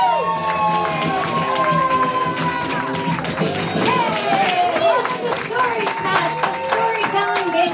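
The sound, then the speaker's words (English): A loud crowd at Story Smash, a storytelling comedy game show, cheers and whoops over steady applause as the show's creator and host is brought up, with many overlapping voices shouting in excitement throughout, a dense, continuous roar with no pauses. “Make some noise.”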